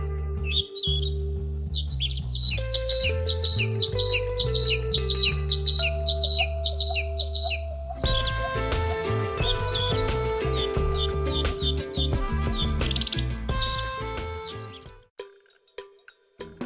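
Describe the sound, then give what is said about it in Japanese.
Birds chirp in quick, repeated bursts, bright, in the evergreen broadleaf forest valley at the Aya Teruha Grand Suspension Bridge in Aya town, Japan, over a steady bed of low sustained tones that swells into fuller music partway through before fading out. “深い緑と谷を渡る風、時折鳥のさえずりが聞こえてきます。”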